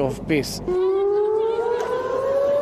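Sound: air raid warning siren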